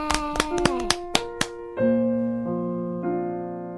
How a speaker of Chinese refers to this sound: 哇，你也好棒啊！来，大家为他鼓掌